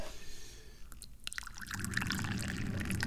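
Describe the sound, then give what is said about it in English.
Ginger mate tea pours steadily into a cup, a brief clink and quiet start giving way to a continuous splashing stream that grows fuller and slightly louder as the cup fills. “First, we pour the tea.”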